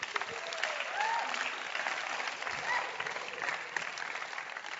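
An audience applauds steadily, a dense crackle of many hands clapping at once with even loudness throughout, and a few brief whoops or voices rising faintly over the applause.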